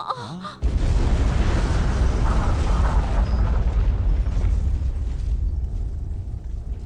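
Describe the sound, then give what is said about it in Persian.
A cartoon explosion effect: the planet Pluto blowing up after a ray is fired at it, a sudden loud blast that swells into a long, roaring rumble and slowly fades, with no voices. “اونا سیاره پلوتون رو نابود کردن.”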